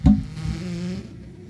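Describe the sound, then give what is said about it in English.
A bumblebee buzzes on a trail through the woods, a low, steady droning hum lasting about a second before fading away, with no voices. “Do you hear the bumblebee?”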